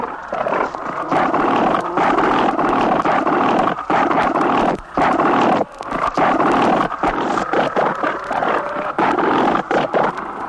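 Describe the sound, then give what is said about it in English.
Bull seals, beach masters, fight over the same cow with loud, rough roaring and bellowing that runs almost without break, overlapping growls dropping out only for a couple of brief pauses. No one speaks. “Sometimes two bulls want the same cow, so they fight it out until the stronger bull or the bigger bluff walks off with the wife.”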